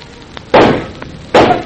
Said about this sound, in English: Oh! Dandy, you shot them. My aim was a miss. One had time to scream. Both dead.